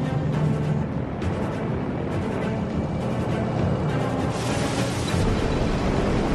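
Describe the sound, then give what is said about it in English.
A water bomber plane skims a lake and scoops up water through small probes under its belly, filling two 2,700-liter reservoir tanks in about 10 seconds: a loud, steady roar of rushing spray and engine noise, continuous, with no voices. “Small probes under the belly of the plane scoop up the water, filling the two 2,700-liter reservoir tanks in just 10 seconds.”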